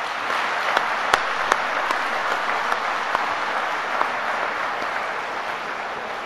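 Sustained applause from a sizable audience for a musical quintet, a dense steady wash of clapping with a few sharper individual claps popping out, continuing evenly for several seconds with no talking.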